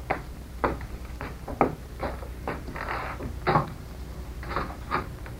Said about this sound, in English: We had better go into the next room. I will open the door.